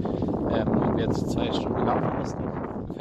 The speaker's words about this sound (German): konnte man bis auf Wind echt absolut gar nichts hören.